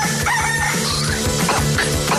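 A rooster crows with rising, strained calls over a busy, rhythmic music track with a steady beat; the crowing repeats a few times, and no one speaks.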